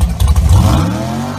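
A dragster engine of the kind driven at Frank Hawley's Drag Racing School for a super gas license revs hard, its deep rumble climbing in pitch as the throttle opens, with rough clattering bursts at first, then a smoother rising whine. Loud throughout, with no voices.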